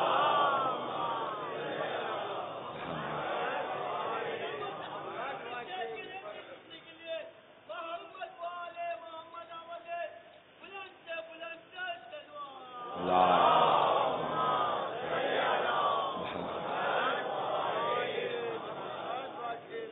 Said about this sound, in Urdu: یا رسول اللہ، نعرہ صلوات، صلوات پر محمد و آل محمد.